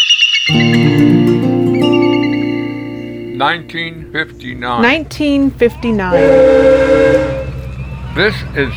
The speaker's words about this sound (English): This is Juno Cold Storage. Four large buildings on pilings. They're blasting the whistle announcing that it's break time.